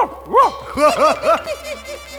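A small dog yaps in a quick series of six or seven high, bouncy, fairly loud barks, fading slightly toward the end with no talking.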